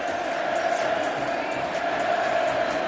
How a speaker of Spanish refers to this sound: Y el Camp Nou rendido, gritos de Messi por la exhibición del otro día ante el Valladolid.